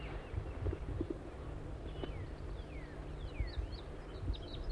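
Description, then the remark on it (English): A few faint calls of a wild orange male crossbill near a decoy setup and net, short downward-slurred chirps in a loose sequence, sit over a steady low rumble with occasional soft knocks. Nobody speaks. “There's a wild crossbill here.”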